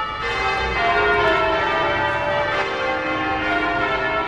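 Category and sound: signal or alarm, church bells ringing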